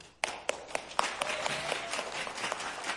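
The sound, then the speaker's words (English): An audience of anti-vaxxers claps for Rand Paul, opening with a few sharp, evenly spaced claps that quickly thicken into a steady wash of applause, with no voices over it. “Yeah, those are the anti-vaxxers clapping for Rand Paul.”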